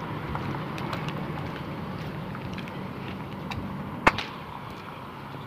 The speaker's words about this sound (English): Lord, nice traffic this morning.